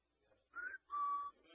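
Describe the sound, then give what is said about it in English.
A person whistles a two-note birdlike call, a short higher note followed by a longer, steadier lower one, imitating a pet bird. The whistling is fairly soft and heard alone. “That bird at my house has whistled like that so much, he's got me doing it.”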